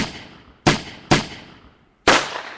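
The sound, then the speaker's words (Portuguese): Three loud, sharp gunshots ring out one after another at uneven intervals, each cracking and then trailing off in a reverberant echo, with no voices present, as Euclides goes to the house of his wife's lover, Dilermando de Assis, and tries to kill him with a borrowed gun. “Vai à casa do amante da mulher e tenta matá-lo.”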